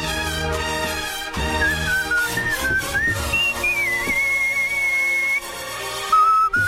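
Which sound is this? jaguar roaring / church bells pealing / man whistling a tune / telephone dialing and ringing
man whistling a tune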